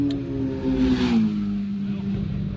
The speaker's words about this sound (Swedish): Det var en väldigt försiktig general som passerade här med nummer 12 på motorcykeln. Men mycket fortare än jag skulle våga.